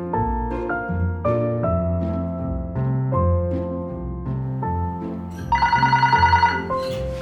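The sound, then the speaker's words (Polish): An old railway signal box telephone, formerly used at Radzyń Podlaski station, rings in a short, rapid rattling burst near the end, loud, following a stretch of steady melodic tones. “To było na wyposażeniu którejś z nastawni wykonawczych i ja jeszcze jako nastawniczy miałem okazję obsługiwać ten telefon.”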